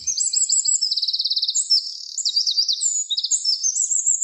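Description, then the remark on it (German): A wren sings a loud, continuous high-pitched song of rapid trills and sharp chirps, with fast buzzing rattles woven between clear whistled notes, with no voices present. “Das war der Zaunkönig.”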